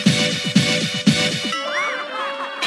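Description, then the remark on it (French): A chair squeaks three times in a quick, even rhythm, then lets out a longer, wavering high-pitched squeal that bends up and down in pitch. No one speaks. “C'est lui avec sa chaise.”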